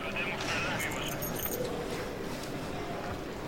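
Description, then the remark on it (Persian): A short, bright metallic jingle of a room key rattles for about a second as it is handed over in a police investigation building, then fades into a steady murmur with faint voices in the background. “سعید کلید اتاق رو بهش میده.”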